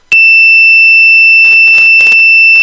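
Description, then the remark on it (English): A phone call rings in as a loud, steady, high-pitched electronic tone that holds without a break, while four short bursts of hissy noise sound over it toward the end. “we have a phone call.”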